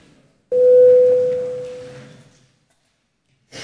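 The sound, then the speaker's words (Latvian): A parliamentary voting bell, rung to call a vote on a bill in its third and final reading, sounds as one loud, steady electronic tone lasting about two seconds before fading into silence, followed by a short burst of noise at the very end. “Lūdzu zvanu.”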